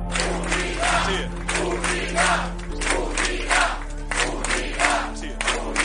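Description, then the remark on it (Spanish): A large crowd of PSOE party members at a political rally chants a slogan of unity in unison, loud rhythmic bursts repeating about once a second over a steady low hum, with no single voice standing out. “así que los militantes cambiaban entonces el grito de vote, vote, vote, susanista el que no vote, por un grito de unidad al que respondía el propio Sánchez.”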